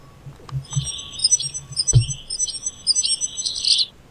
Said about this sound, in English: Sounds to me like a bicycle, like a squeaky bicycle. Oh, who's that? That's an actual bird. That's a wren. That's an actual... Yeah, can you see it on the woodpile, look? Oh, yeah. No, she's on the fire pit. Yeah, noisy for a little bird.